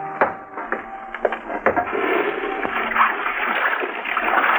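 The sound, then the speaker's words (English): Water splashes and sloshes as someone washes up in a kitchen, with clattering taps and knocks in the first seconds giving way to a steady, running wash of water. “Let's go in the kitchen and wash up.”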